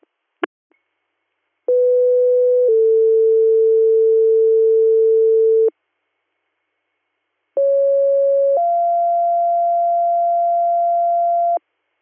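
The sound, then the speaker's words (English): Two-tone dispatch paging alert tones sound twice after a brief click: each a steady tone stepping to a second sustained pitch, loud and clean, separated by a short silence, with no voices. “disregard your tones.”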